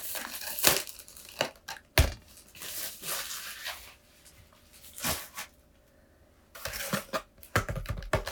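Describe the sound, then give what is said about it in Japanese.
Packaging of a dark black box being torn open: irregular bursts of crinkly, papery ripping and rustling, with a few sharp snaps and a louder flurry of tearing toward the end, no voices. “あ、箱破っていっちゃいそう。”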